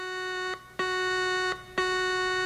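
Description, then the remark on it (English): A warning alarm blares in the distance through subterranean corridors in long, harsh, buzzing blasts, sounding three times with brief gaps between them, steady and loud with no voices. “In the distance, a warning alarm blared through the subterranean corridors.”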